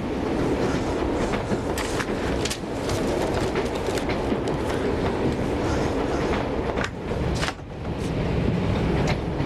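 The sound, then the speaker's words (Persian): A moving passenger train clatters along the rails, a loud, steady rumble broken by sharp rhythmic clacks from the wheels, with no voices. “فکر نمی کردم شما با این قطار سفر کنید.”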